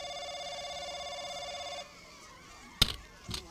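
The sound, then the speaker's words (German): A telephone in a phone booth rings with a steady, buzzy electronic tone for nearly two seconds, then falls silent before a sharp click and a softer clunk follow. “Das Telefon klingelt ja.”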